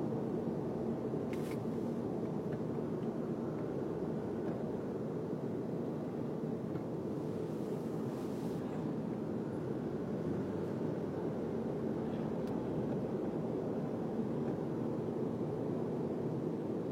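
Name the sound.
helicopter flying overhead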